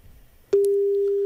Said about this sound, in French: Non, on l'appelle directement sur son portable pour commencer. D'accord, c'est parti.